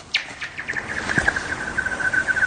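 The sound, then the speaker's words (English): A rock skipping across frozen lake ice makes a rapid series of high, chirping, laser-like pings that quicken and settle into a steady warbling tone, with a low thump partway through. “he discovered something when he decided to skip a rock across a frozen lake”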